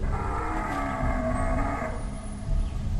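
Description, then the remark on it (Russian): A deep, drawn-out bellowing roar from a giant bear-like beast as tall as the highest trees, in a forest clearing, tonal and groaning, holding for nearly two seconds before fading into a low rumbling growl. No voices. “Взгляд чудовища уперся в Эдди Дина, и оно вновь заревело.”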